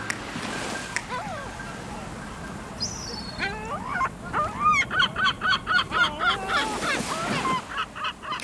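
Gulls cry out in a rapid, repeated series of loud, squawking calls over a steady wash of sea waves, the birds sounding insistent.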